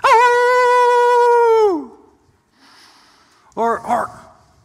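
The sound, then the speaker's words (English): A person imitates a coyote's howl: one long, steady wavering note that slides down at the end, followed by a short pause and a couple of quick yipping vocal bursts. “Perhaps a howling coyote.”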